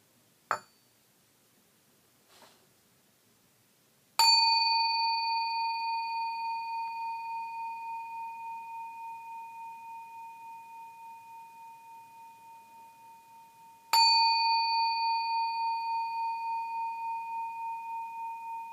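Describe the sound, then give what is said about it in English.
A meditation bell is invited to begin a sitting meditation, ringing out twice after a couple of soft preliminary taps, each strike leaving a long, clear, shimmering tone that slowly pulses and fades amid quiet. “So I will invite the bell three times and I will start the sitting meditation.”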